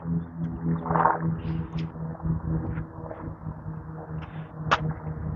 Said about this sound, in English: Twin engine. Small plane.